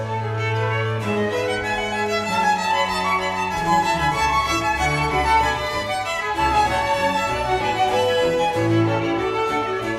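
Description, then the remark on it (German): Reinhard Göbel's arrangement of Bach's Triple Concerto for three harpsichords in C major, BWV 1064, transposed to D major for three solo violins and strings, plays continuously at a steady, fairly loud level, bright interweaving violin lines over sustained lower chords, with no voices. “Bachs Trippelkonzert für 3 Cembali, C-Dur, Bachwerkverzeichnis 1064, das verlegte er nach D-Dur und schrieb es um für 3 Solo-Violinen.”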